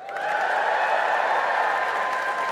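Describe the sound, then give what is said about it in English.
A live crowd cheers and applauds loudly when asked to cheer if they prefer Thai red curry, a dense wash of clapping and whooping voices that swells quickly and holds steady for a couple of seconds with no single voice standing out. “Let's do a quick, give me a cheer if you're a Thai red curry person.”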